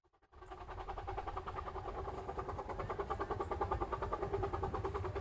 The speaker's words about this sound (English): I'm here at Tilden Park at the steam trains. You can hear the sounds of the train traveling across the rails.